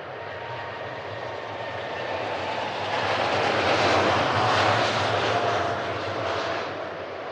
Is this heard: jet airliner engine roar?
yes